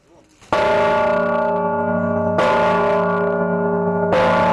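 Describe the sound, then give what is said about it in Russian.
A large, newly consecrated church bell is struck three times after a church service, at a slow, steady pace, each loud, ringing strike overlapping the long humming decay of the one before. “По окончании богослужения первыми в новоосвященный колокол ударили владыка Кирилл и генеральный директор группы компании «Югстройинвест» Юрий Иванов.”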